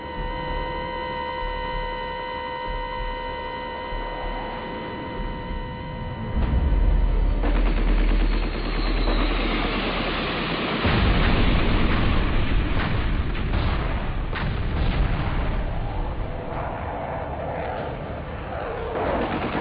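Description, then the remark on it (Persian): A steady humming drone gives way to heavy, rumbling booms and dense, rapid bursts of anti-aircraft gunfire and explosions that continue loudly and almost without pause to the end: a wall of anti-aircraft fire around Iraq's al-Rashid base, especially near the Tigris river. “دیوار آتش درست کردن و اینقدر از این اطراف می‌زدن، علل خصوص اطراف رودخانه دجله.”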